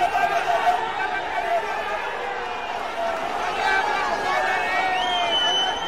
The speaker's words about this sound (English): Finally, as they come into the final stretch, the crowd agonizes, encourages, and pleads.